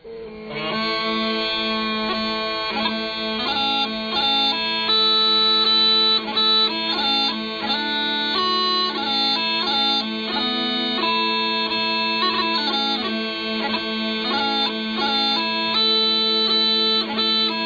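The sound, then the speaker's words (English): Bagpipe music played by a bagpiper plays steadily throughout, a constant droning bass under a shifting, reedy melody, loud and unbroken with no voices. “You know, it's not every day that I have a bagpipe as background music.”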